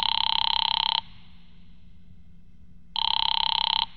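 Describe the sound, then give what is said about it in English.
A telephone call placed from a phone booth rings twice through an earpiece, each buzzy double-tone burst lasting about a second with a two-second pause between, heard alone over a low hum. “A little after five, I went to a phone booth and called my client, Fred Lane.”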